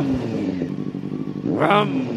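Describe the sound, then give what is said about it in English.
A voice imitates a revving engine, a continuous buzzy drone that climbs sharply in pitch and loudness near the end like an engine being gunned, heard alone. “I'm trying to rev up the. I want the revving mouth. To be better.”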